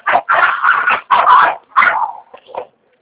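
A small pitbull dog barks loudly in a quick series of about five sharp yaps, ending with a short whiny yip, with no one speaking.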